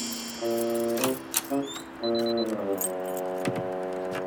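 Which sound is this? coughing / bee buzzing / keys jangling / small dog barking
keys jangling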